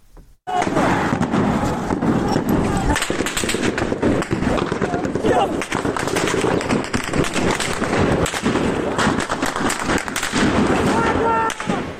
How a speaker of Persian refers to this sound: و همینطور در پیرانشهر که صدای ممتد رگبار گلوله ها در ویدیو کاملا مشهود هست و پناه گرفتن معترضان زیر این رگبار گلوله ها.